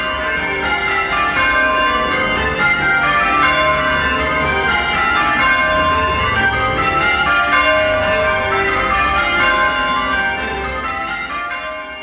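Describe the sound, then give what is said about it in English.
A peal of eight church bells rings changes, playing permutations of the bells, their strikes overlapping in a steady, loud cascade of resonant, humming tones that continues without pause, with no voices present. “Just a bunch of church bells, eight of them, in fact, running from top to bottom in a major scale over and over.”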